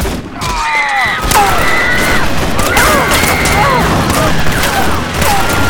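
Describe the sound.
A volley of rifle gunfire fired from above, with sharp shots cracking rapidly and irregularly throughout, loud, while voices shout over the shooting.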